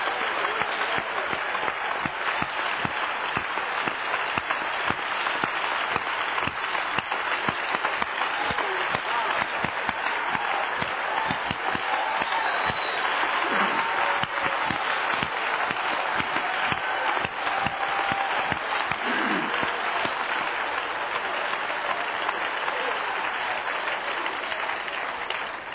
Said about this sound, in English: I'm going to ask you to take that applause and relay it on to the one who properly deserves it, and his name is Jesus.